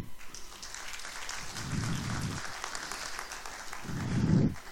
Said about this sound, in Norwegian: Det synes jeg også verdt en liten klapp.